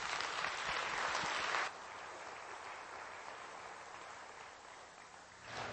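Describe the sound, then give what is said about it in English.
Audience applause welcoming a speaker as he comes up, a dense crackle of many clapping hands, loud for about a second and a half, then steady and a bit softer for several seconds before swelling again at the end. “Well, it's always good to have him clap first and not wait to the end, because it might not be that way.”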